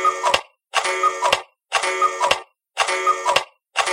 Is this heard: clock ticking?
yes